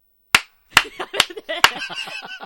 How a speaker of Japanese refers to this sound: 手拍子 これいらないですねすみませんでした。